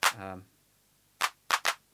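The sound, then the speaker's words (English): A synthesized hand clap sounds once with a short, buzzy pitched ring trailing it, then after a pause three crisp, dry claps follow, the last two in quick succession. “So here we've got what sounds like a fairly polite little hand clap sound.”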